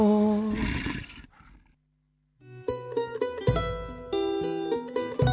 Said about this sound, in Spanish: Todos los viernes, a partir de las 10 de la noche, hay un lobo suelto.